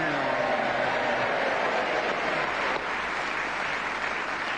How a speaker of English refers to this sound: Simon Williams, speaking as the whistle went, gained that extra point and a resounding round of applause from this naval audience here because it's the first time he was speaking as the whistle went.